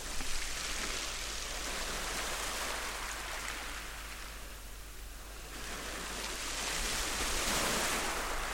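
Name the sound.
ocean waves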